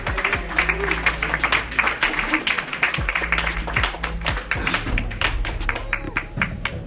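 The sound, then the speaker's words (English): An audience claps steadily for a comedian being introduced, dense overlapping hand claps forming a loud, continuous wash with a few sharper individual claps and faint voices mixed in underneath. “Let's get a big round of applause going for your next comedian.”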